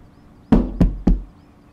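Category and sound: household object, knocking on a door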